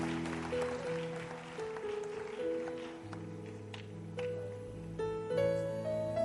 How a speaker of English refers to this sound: Give the Lord a big clap of hand. He owns the universe.